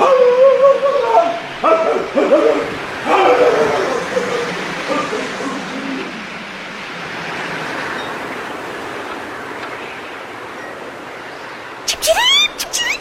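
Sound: dog barking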